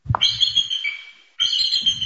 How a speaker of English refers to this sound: At Avian Haven in Freedom, Maine, it's feeding time at the bald eagle enclosure.